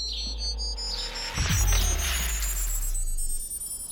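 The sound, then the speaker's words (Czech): A sci-fi teleport activation effect: shimmering, rising electronic tones swell into a deep rumbling surge, hold for a few seconds, then cut off abruptly. No voices. “Máme ale teleport, jenom nám řekni, kam se máme přenést. Do mého útulného domova. Výborně, tak já zapínám teleport.”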